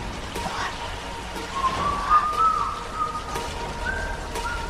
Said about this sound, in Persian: اون مردی که داره سوت میزنه در جهت ساعت 10.